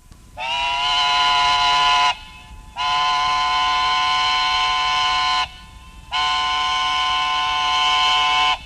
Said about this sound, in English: There they are, back again, the three blasts of the whistle. A sign that the harvesting crew was about finished at the next farm, and soon it would be coming along the dusty road, dragging the thresher, lumbering, grinding on the stones,